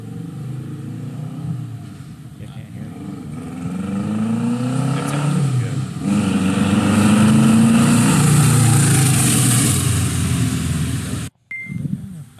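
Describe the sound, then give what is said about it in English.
A truck engine roars as it drives along the road, its pitch climbing as it accelerates, loud and steady for about eleven seconds before cutting off abruptly. “But yeah, there it is, going down the road”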